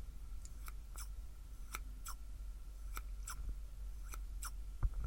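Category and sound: tool, scissors snipping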